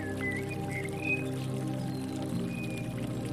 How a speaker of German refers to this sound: Untermalt wird der Vogelchor von dem leisen Rauschen eines schmalen Bächleins, das sich zu uns gesellt hat. Der glasklare Wasserlauf nimmt uns mit auf seine Reise durch den Herbst.